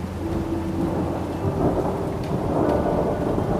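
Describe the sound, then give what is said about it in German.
Deep thunder rumbles and rolls continuously over mountain peaks beneath a steady wash of heavy rain during a thunderstorm with lightning in the Puster Valley, South Tyrol; a dense, loud storm with no voices present. “Draußen regnet es in Strömen und in den Bergen hat sich eine Gewitterfront verkeilt. Es blitzt. Der Donner rollt über die Berggipfel, als wären sie ein Skatepark für Krach.”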